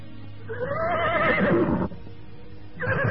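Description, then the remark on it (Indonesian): A horse with a rider seated on its back lets out a loud, wavering whinny lasting over a second, followed by a brief pause and the start of another neigh, with no talking. “Saat itu, Mus'ab sudah duduk di punggung kudanya.”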